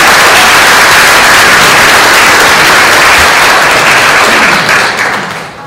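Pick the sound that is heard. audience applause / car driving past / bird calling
audience applause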